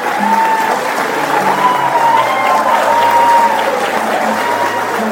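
A crowd at the Parque do Japão in Maringá applauds the imperial couple after they planted a white ipê and a cherry tree, a dense, even wash of clapping that holds at a constant loudness throughout, with faint tonal sounds and murmurs mixed beneath.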